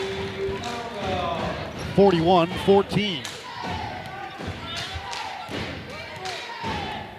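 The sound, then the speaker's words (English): A basketball is dribbled on the court during a women's game, giving a series of sharp, punchy thuds at a steady rhythm, while a man commentates on the play over the bounces. “Still with that dribble.”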